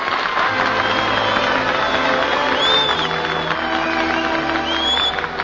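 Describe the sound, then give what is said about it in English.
A large audience applauds steadily throughout, a dense wash of clapping with scattered cheers and whistles rising above it, sustained and fairly loud from start to finish. “We give our applause where it is really deserved.”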